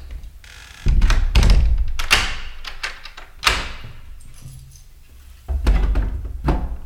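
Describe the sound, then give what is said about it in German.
A door being wedged shut with a chair: several heavy wooden thuds and knocks with a scraping clatter between them, in uneven bursts and with no voices. “hat die Tür verkeilt. Wahrscheinlich mit einem Stuhl.”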